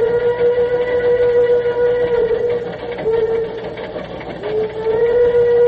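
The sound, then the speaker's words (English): A steam locomotive whistle, played from a record, blows loudly in long sustained blasts, briefly dipping before sounding again, over the rumbling chug of a moving train. “I love that whistle.”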